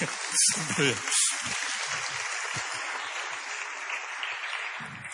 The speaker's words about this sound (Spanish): Aleluya, un aplauso a toda la iglesia, aleluya.